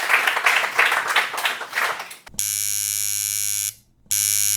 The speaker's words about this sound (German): Ein Applaus für Christoph Aribert und Flo Krämer.